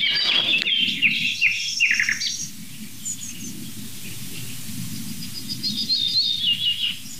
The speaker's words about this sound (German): Man hört sogar ganz zart im Hintergrund noch eine Goldammer.